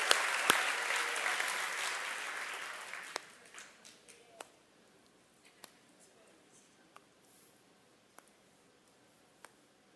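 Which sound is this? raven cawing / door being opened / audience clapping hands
audience clapping hands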